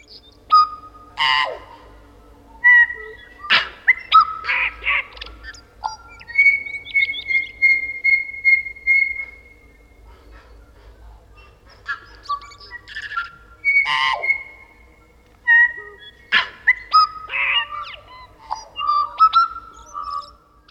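A tui sings alone in a long, varied song of clear bell-like notes, whistles, clicks and wheezy chirps, including a run of repeated pure whistles, with short pauses between phrases.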